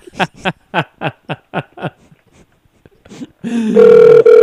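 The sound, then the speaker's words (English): Several quick bursts of laughter give way, after a short pause, to a loud, steady electronic phone ringing tone from a call being placed. “I'm still calling him, anyways.”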